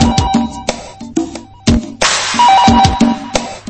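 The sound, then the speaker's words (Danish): A telephone rings with a loud electronic ringtone: short tonal melody notes over sharp, rhythmic percussive hits, repeating for a few seconds with no one speaking. “Du ser ringe telefonen, og det redder mit hjerte.”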